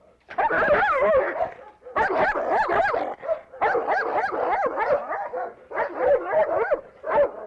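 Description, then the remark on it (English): A dog, Rover, a local purchase dog, barks and whimpers in loud, rapid bursts of yelping cries, grouped into runs separated by brief pauses. “Oh, a local purchase dog.”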